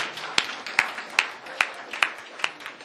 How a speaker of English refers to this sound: Look at these beautiful children. I think we should give the parents a clap. Come on.